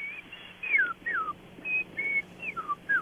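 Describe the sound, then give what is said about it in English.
A person whistles an imitation of an Eastern Meadowlark's song: a quick series of clear, plaintive notes, several sliding downward, moderately loud against a faint background hum. “But to me, it's a little bit more warbled, flute-like, much more melodious, where the Eastern Meadowlark is just a plaintive little whistle, and you just hear that.”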